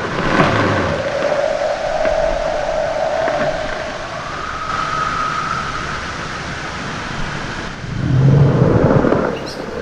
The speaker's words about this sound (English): This is the sound of iceberg calving, brash ice melting, and the trilling of leopard seals, recorded on the West Antarctic Peninsula.